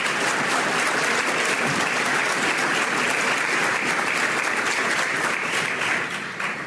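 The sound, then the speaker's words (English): Sustained applause from a large audience during a speech at Hillsdale, a dense, steady wash of clapping at even loudness throughout, tapering slightly at the very end. No one speaks over it. “He got a lot of applause at Hillsdale because they actually know the Constitution there.”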